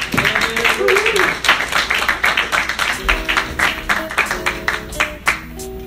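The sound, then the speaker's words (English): A crowd applauds steadily throughout, dense overlapping claps holding a fairly even loudness, with a few voices calling or whooping beneath the clapping, as the next comedian is introduced at a comedy show. “Get a big round of applause going for your next comedian.”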